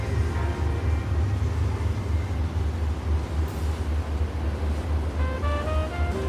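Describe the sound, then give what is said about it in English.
The engine of the boat Mother Mistress rumbles steadily at low pitch, loud, as it backs out of Cabrillo Marina leaving the harbor, with water churning and wind noise washing over it; a faint rising tonal whine appears near the end. “We're leaving the harbor right now from Cabrillo Marina, and I'm backing the boat out.”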